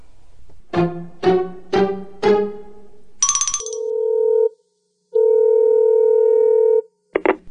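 Telephone sounds with no voices, before a call to book a flight to Paris: four quick electronic beeps, a brief high chirp, then a steady buzzing ring tone in two long bursts separated by a pause, clear.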